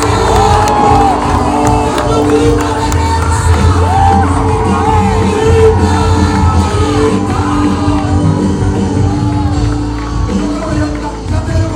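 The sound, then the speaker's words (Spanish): A large audience roars a loud, sustained war cry in response to a call for one, many voices shouting and whooping together for several seconds, dense, with no distinct speech. “Pero si tú eres provocador, vamos, grito de guerra.”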